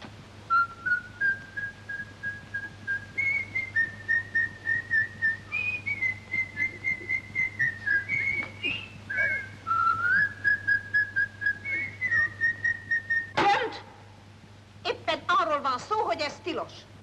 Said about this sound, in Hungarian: aztán elkezdte fütyülni, hogy hej, Tiszi Milka, maja, Tiszi Milka